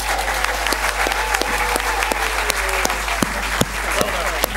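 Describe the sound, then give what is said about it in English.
A debate audience applauds steadily to vote for one side, a dense wash of many hands clapping with sharper individual claps standing out, sustained at an even loudness throughout. “If conversely you feel that our communities are in control and agree with Hugh and Paul, please make it known by way of applause.”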